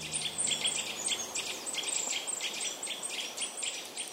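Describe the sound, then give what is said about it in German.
Woodland ambience from Sounds of the Forest, a British acoustic forest library sound project. Continuous high, chirping birdsong with repeated bright trills plays over a steady soft background hiss, with no one speaking. “Nina Helen Kemper stellte die akustische Waldbibliothek vor, ein britisches Soundprojekt.”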